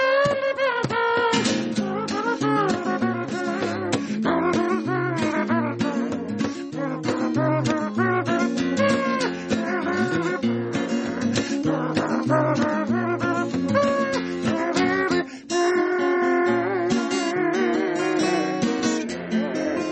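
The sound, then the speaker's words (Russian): A lively, continuous piece of music whose trumpet melody is buzzed with the lips rather than played on a real horn, sitting loud and upfront over a busy accompaniment. “Партия трубы исполнена на губах”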